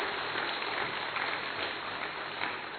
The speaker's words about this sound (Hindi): सभी जोरदार ताली से दीदी का स्वागत करते रहेंगे।